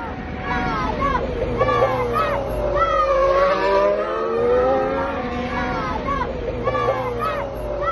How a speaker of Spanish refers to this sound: Y fíjate cómo le vitoreaban los chavales desde fuera justo del circuito.